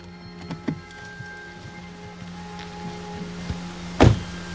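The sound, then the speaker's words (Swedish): A car comes to a stop and parks at a stage start of a hiking trail through Avanskogen, its engine humming steadily, with a few light clicks and a heavy thunk near the end. “Vi kommer inte längre med bilen. Vi tvingas parkera vid en etappstart till leden.”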